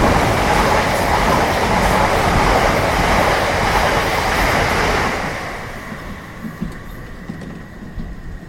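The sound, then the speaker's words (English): A loud rushing roar of a train passing the other way, heard from the corridor of a moving train car, fills the first five seconds, then drops away abruptly, leaving a quieter rumble of rolling wheels with faint clanks. “The corridor is louder than your room, and every time a train passes the other way, the blast makes the car go dark.”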